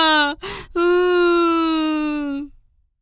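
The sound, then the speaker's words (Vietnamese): A voice imitates a lamb, lost in a deep forest, crying after sitting down on the ground: a short whimper, a sharp breathy gasp, then one long, drawn-out wailing cry that holds steady before trailing off, loud. “Vừa mệt vừa sợ, bé cừu ngồi phịch xuống đất khóc thảm thiết.”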